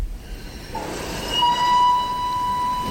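The Vienna express train departs from a station, rumbling with low mechanical noise, then a long steady high-pitched squeal or whistle rings out over the rolling sound. No one speaks.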